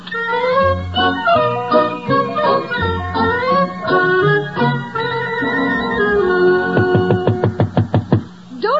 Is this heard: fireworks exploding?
no